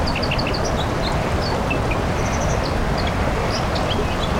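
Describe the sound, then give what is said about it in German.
A white-throated dipper sings a rapid string of high, scratchy chirps and trills over the loud, steady roar of a rushing stream that fills the background throughout. “Das ist eine Wasseramsel am rauschenden Bach.”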